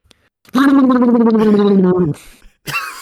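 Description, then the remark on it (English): A voice does a loud, wet, gargly imitation of a loose fart, one sustained sputtering blast lasting about a second and a half, followed by a brief breathy noise. “This is definitely me when I fart.”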